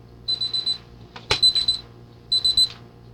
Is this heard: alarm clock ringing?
yes